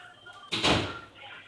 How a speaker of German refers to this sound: Ich muss mal ganz kurz die Tür zumachen, weil das ist eine Sache, die muss auch nicht jeder hören.